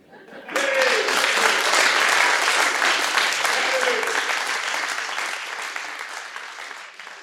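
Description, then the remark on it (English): A crowd breaks into sustained applause, a dense wash of clapping that starts abruptly, holds steady, then slowly tapers off, with a few voices mixed in. “I want you all to clap now.”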